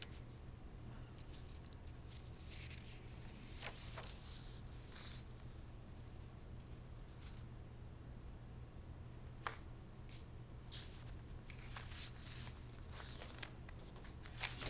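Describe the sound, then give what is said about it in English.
Quiet, intermittent rustling of paper pages being shuffled and rearranged after being turned upside down, with occasional sharper crinkles and taps over a steady low hum. Nobody speaks. “Got my pages turned upside down here.”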